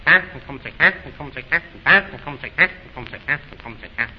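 Ducks quack in a rapid, agitated series of about nine nasal calls, loud, with overlapping voices making the flock sound excited as the ducks swim back.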